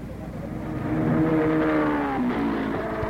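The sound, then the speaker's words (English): Open-wheeled, 1,350-pound United States Auto Club championship race cars, capable of 170 miles an hour, roar past at high speed, a loud, steady whine whose pitch rises and then drops as the cars go by, with no voices. “quite as much as the open-wheeled 1,350-pound, 170-miles-an-hour championship cars and the ice-nerved men who drive them.”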